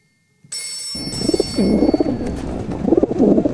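A flock of racing pigeons coos, soft throaty calls overlapping and rising in waves, with a steady faint high-pitched whine running underneath.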